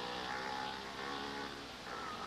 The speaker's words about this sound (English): I'm sure glad we got this taxi. There are many people and many cars here in New York City. There's a lot of traffic.